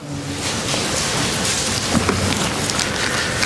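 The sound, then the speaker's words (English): Steady, heavy rain pours down in a dense hiss, with a low rumbling of thunder rolling beneath it throughout. No voices, just the continuous storm filling the space. “Remember when the disciples were on the boat in the middle of the Sea of Galilee and the storm came up?”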